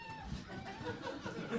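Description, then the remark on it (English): A Woot Monkey toy yells in a shrill, warbling, animal-like screech that carries on steadily for a second or two, fairly faint over a low background murmur. “The Woot Monkey's yelling.”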